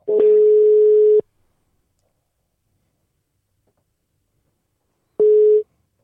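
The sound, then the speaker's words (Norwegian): A telephone ringback tone from an outgoing call to the Fredrikstad municipality service desk: a steady, clear hum sounds for about a second, pauses for several seconds of silence, then starts again. No voices. “Vi ringer Servicetorget.”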